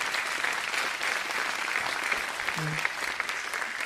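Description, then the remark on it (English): Steady applause from an audience fills the space, a dense wash of many hands clapping at even volume throughout, with a brief low tone briefly rising beneath it. “Yeah, you can clap, that's great.”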